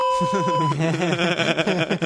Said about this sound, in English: I like this whole beeping thing that we're going to do now.